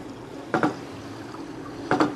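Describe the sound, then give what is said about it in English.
Rhythmic knocking from Siwukak, an animal in a pool, picked up by microphones placed around the pool; his head vibrates as he knocks: two short bursts of sharp, doubled knocks about a second and a half apart, over a steady low watery hum, with no talking. “is a rhythmic knocking sound.”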